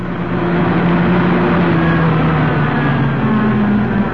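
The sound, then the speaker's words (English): A hired car's engine hums steadily and fairly loudly throughout as it drives along the coast about 3 miles from the main town, a continuous low droning rumble, with no voices and no clear sign of the vehicle slowing or switching off. “When we arrived, we hired a car and drove to the place we'd been told to find, about 3 miles along the coast from the main town.”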